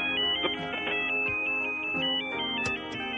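A radio phone ringtone plays a bright, stepping electronic melody of tonal beeps, loud, continuing steadily with no one talking over it.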